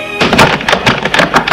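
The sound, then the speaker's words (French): A front door being opened in the evening, a quick run of clattering knocks and thuds from the latch and handle, fairly loud and with no voices. “Un soir, Jules sonne chez Véronique. Elle lui ouvre.”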